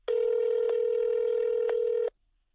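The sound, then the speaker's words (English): A telephone tone from calling a business whose phone number was out of service rings out as one steady, loud electronic beep lasting about two seconds, broken only by two faint clicks, heard alone with no voices. “But the phone number listed for the business was out of service.”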